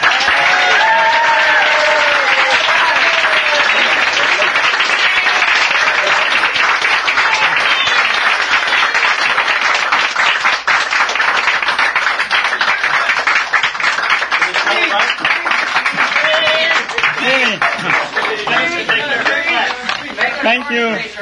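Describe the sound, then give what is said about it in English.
Sustained, loud applause from a large audience at a dinner in Omaha, given as a plaque is awarded, fills the full twenty seconds, a dense steady patter of many hands clapping with scattered cheers and voices rising over it. “So to that end, we have a plaque to award and a warm round of applause to”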